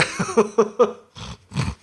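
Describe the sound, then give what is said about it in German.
A man voices a pig imitation as his buzzer sound in a quiz: several quick nasal grunts in a rapid row, then two longer, rougher snorting grunts, fairly loud with no other sounds. “jeder hat ein Geräusch. Also …, du bist das Schwein. Machen wir mal kurz.”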